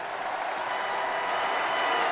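A large tennis crowd applauds steadily as American player Taylor Fritz comes onto the court, a dense, even patter of clapping that holds at a constant level throughout, with no one talking over it.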